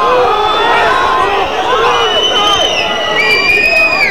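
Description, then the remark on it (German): A crowd of parliament members shouts and roars at once, a loud, sustained wall of overlapping adult yells and jeers with no single voice standing out, steady for the whole stretch. “Also wie gesagt, Gebrüll ist für mich keine Debatte.”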